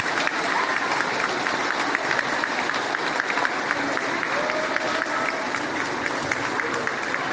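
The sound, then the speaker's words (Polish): An audience at a concert put on by school pupils claps steadily and densely for the whole stretch, a loud, even wash of applause with no pauses and no voices standing out. “Brawa dla was.”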